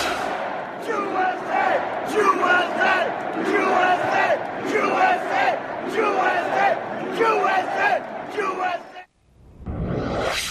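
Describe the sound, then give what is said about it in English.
A large crowd of Trump supporters chants "USA" in unison, a loud repeated short phrase in a steady rhythm of many voices, while a supporter by the press section points at reporters and chants "Jew-SA"; the chant breaks off briefly near the end before the crowd noise resumes. “The crowd was chanting USA.”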